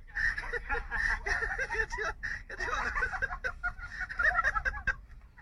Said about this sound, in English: What the hell is happening here? That chicken is kicking that guy's ass. Oh! Oh, no. Look at it. Now he's in fight mode.